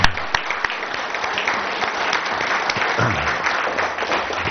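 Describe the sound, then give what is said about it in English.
An audience applauds two people who do a great job for them, a dense wash of many hands clapping at a constant loudness, with a few sharper individual claps standing out, and no one speaking. “And maybe if anybody deserves a round of applause who never gets it, it's these two.”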